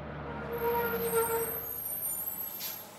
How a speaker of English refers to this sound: The buses kept passing them, even though there was plenty of room.